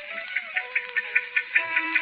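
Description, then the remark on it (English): A wound-up pocket watch that hangs behind a bar ticks quickly and evenly, about five light clicks per second, over a faint steady tonal hum, with no one speaking. “listening to that watch ticking away”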